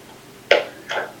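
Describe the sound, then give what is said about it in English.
Two quick, high-pitched yips from one of two puppies, one right after the other, with quiet behind them. “Sorry, I have two puppies.”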